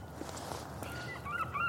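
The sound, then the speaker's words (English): Harsh, squawking seagull calls ring out over a steady outdoor background in sunny woodland a long way inland, with a couple of rising wails near the end that sound like gulls crying. “We got sunshine. We got seagulls.”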